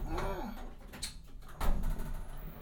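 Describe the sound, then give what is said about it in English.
A small lift door slides after the floor-one button is pressed and held, with a low mechanical rumble and a soft whirring, punctuated by a couple of light clunks, at moderate volume. “And now the door is moving.”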